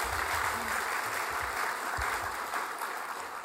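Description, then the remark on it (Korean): A church audience claps together in sustained, dense applause in thanks to volunteers serving in the vehicle, vehicle guidance and kitchen ministries, a steady crackling wash of many hands that holds at an even loudness for the whole stretch, with no voices standing out. “그분들에게도 우리 마음속으로 우리 감사의 마음을 담아서 우리 한번 박수로 한번 보내드리도록 하겠습니다.”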